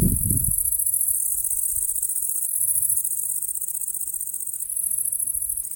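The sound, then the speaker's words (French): Dense, continuous high-pitched chirring of nighttime crickets and grasshoppers, recorded during nocturnal listening sessions with equipment able to capture ultrasound. A steady, shimmering insect chorus fills the scene, with faint low rumbles underneath and no voices. “Lorsque les scientifiques du programme Vigikiro ont réalisé qu'ils enregistraient au passage des criquets et des grillons, ils ont eu l'idée de lancer le programme SON, S-O-N.”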